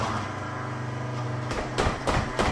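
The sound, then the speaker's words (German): An electric blender whirs with a steady, humming motor drone for about a second and a half as it mixes ingredients thrown in for a homemade face mask of chamomile tea, honey and oat porridge, then cuts out, followed by three sharp clunks and rattles. “Und dafür brauche ich einen Mixer. Ich werfe die Sachen einfach rein.”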